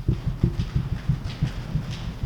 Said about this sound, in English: And this side, stomp your feet.